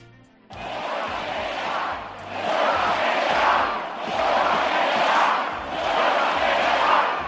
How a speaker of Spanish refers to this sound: Incluso en la concentración de Madrid, que es la más numerosa, se escuchaban esos gritos de huelga general.